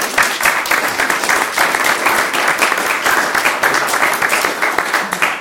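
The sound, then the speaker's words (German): Sustained applause from an audience in a hall, many hands clapping densely and steadily for several seconds at fairly loud volume, with no voices standing out. “Also ich möchte gerne einen Applaus, weil es ein paar hier im Saal für die Leute.”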